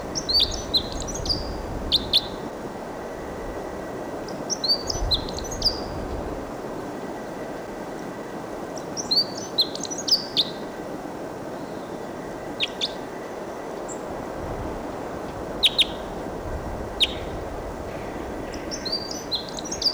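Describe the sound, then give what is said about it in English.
Wild bird song recorded at 7:03, in repeated bursts of high, bright chirps and trills, spaced a few seconds apart over a steady low rumbling background, with no talking. “It's a wild bird song.”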